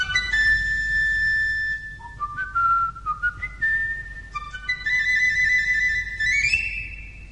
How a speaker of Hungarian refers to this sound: Füttyents hát ide a vezetőt!